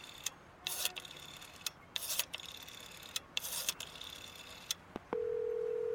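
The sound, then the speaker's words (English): A few sharp clicks and brief scratchy bursts of telephone handset handling as a call is being placed, then a steady, unbroken telephone dial tone starts and holds to the end, clear with no voices. “Do you think I should call my mom? An excellent idea. There are phones literally everywhere.”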